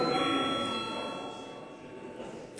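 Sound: parliament voting bell ringing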